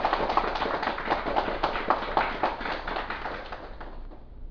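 A crowd of lay Buddhist followers at a Buddhist assembly applauds steadily, many hands clapping in a dense, even patter that holds for several seconds before easing off slightly toward the end. No one speaks over it.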